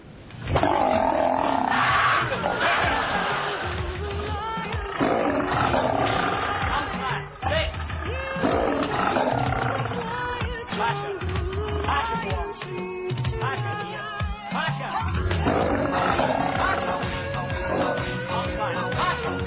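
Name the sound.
lion roaring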